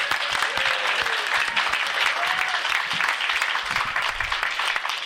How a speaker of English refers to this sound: So first of all, I want to say, because I don't think it's been said yet, that some applause for the Norwescon staff that does a tremendous job.